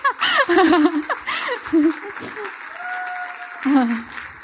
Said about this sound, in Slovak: A ja by som chcela potlesk pre moju mamu.